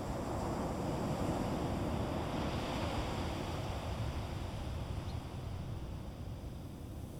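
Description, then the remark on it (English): A steady, unbroken roar of Pacific Ocean surf at Bodega Bay, beyond the sand dunes, mixed with wind rushing across the microphone, holding at a constant level throughout with no distinct wave crashes and no voices. “As you look east from this site, this body of water known as Bodega Bay, and on out through the sand dunes, on out to sea again.”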